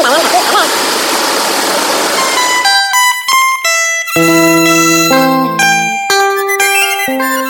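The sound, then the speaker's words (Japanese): Outdoor street ambience around Aitanjung Street by a river in Asek Malaya, where Mrs. Hariati's embroidery shop is, a steady rushing wash of water and background noise for a couple of seconds, then overtaken by loud melodic music with sustained notes. “これは刺繍工芸の活性化の日とでは、ハリアティ夫人の店があるアセクマラヤの川を地区アイタンジュン通り周囲の雰囲気です。”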